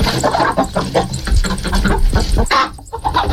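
A busy flock of chickens clucking steadily, overlapping calls and short bursts filling the whole stretch, loud, with a brief lull near the end.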